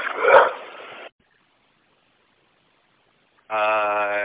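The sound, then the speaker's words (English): A dog on a bus lets out one loud, rough bark, then after about two seconds of silence gives a sustained, high whining yelp. No one speaks. “I have this dog on here that's barking.”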